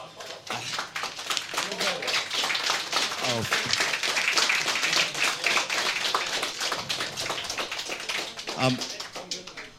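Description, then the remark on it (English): A crowd claps steadily for about ten seconds, a dense, sustained burst of applause with a few faint voices and cheers mixed in underneath, applauding the third-place entry, an Amiga demo, at a competition prize-giving. “We don't have it in the system, but nevertheless, give him a big clap.”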